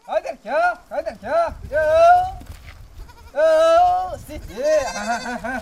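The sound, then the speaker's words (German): Goats bleat loudly, a quick series of short wavering calls followed by several longer, drawn-out bleats, while a young herder calls out to them on Socotra island, Yemen. “seine Ziegen ruft, lassen sie nicht lange auf sich warten.”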